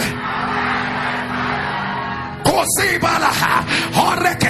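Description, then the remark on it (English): A dense, steady crowd roar gives way abruptly to a large audience shouting loudly in unison, many voices yelling at once, thundering "align by fire" as a month is called out. “Asakata, as I scream January, you're going to raise your voice and you're going to thunder.”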